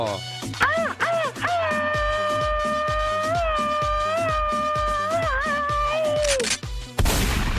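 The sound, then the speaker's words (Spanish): A long, loud shout held for about five seconds, given as a birthday greeting on a radio show, over a fast, steady rat-a-tat of low bursts like machine-gun fire, ending with a brief burst of harsh noise. “Mejor un grito ametralladora para el cumpleañero.”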